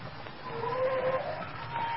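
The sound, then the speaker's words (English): A car's brakes squeal in a thin, wavering high whine as it pulls into a gas station and slows to a stop, lasting under a second over a low engine rumble and background hiss. “Better get them brakes.”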